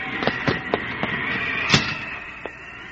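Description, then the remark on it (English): Thunder during a storm with rain: a rapid series of sharp, crackling claps over a steady hiss, with one louder crack near the end. No one speaks. “God, I've never seen such a storm.”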